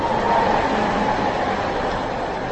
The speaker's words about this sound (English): Tram and car traffic is heavy on Prague's Dukovský hrdinu street.